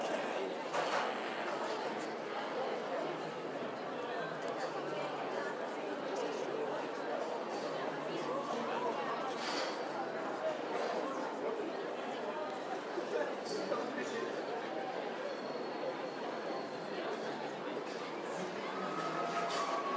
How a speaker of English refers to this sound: Right, well, we are unmistakably at Covent Garden. You can hear cheering in the background. You can hear people chattering as they queue for something.